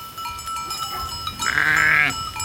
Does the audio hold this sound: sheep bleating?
yes